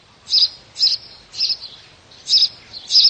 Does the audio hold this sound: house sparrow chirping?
yes